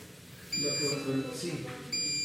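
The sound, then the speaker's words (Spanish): A small machine's electronic alarm, not a phone, beeps in high steady tones, two bursts about a second and a half apart, indicating that the fluid is not passing, while a person talks over a quiet hum. “Y eso que suena no es el teléfono. Es la maquinita que debe estar indicando que no está pasando el líquido, pero se debe, según entendí, debe estar así, está correcto.”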